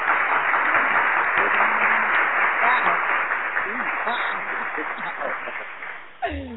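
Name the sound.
audience applause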